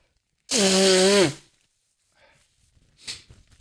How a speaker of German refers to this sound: Und ich muss mal meine Nase putzen, ihr Lieben. Sorry.